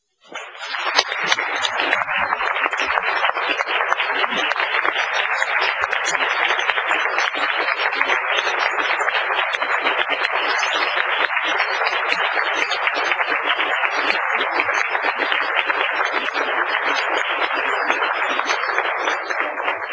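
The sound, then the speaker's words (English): Sustained applause from an audience honoring a man for his service to others, a dense, even crackle of many hands clapping that starts abruptly and holds at a steady, loud level for about twenty seconds without fading. “we applaud your service to others.”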